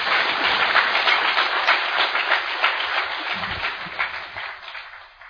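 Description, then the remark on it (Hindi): A crowd bursts into loud, sustained two-handed applause in honour of a guest speaker, many hands clapping in a dense, crackling roar that holds steady for about five seconds before tapering off at the end. No voices are heard. “तो ताली बजाइए जोरदार दीदी के ऑनर में।”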